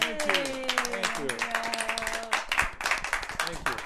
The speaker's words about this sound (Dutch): Het was fantastisch om jullie hier te hebben in Pocket Concerts. Zullen ze nog even een applaus geven, jongens?